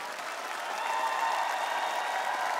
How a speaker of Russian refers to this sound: ваши овации!